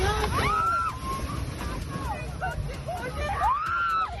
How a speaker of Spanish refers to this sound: Escuchas las fuertes rachas de viento que se han registrado este sábado en la provincia de Córdoba.